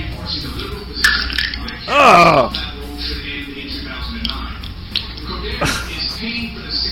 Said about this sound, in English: And finally, it's like the 4th of July fireworks finale. as interpreted by a man's ass.